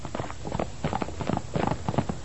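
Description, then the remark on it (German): Horse hooves clip-clop in a steady, rhythmic walking pattern as two friends ride the horses Amadeus and Pascal on the way to Falkenstein, a series of hollow knocking beats with no talking. “Wenig später sind die beiden Freundinnen unterwegs nach Falkenstein. Tina auf Amadeus, Bibi auf Pascal.”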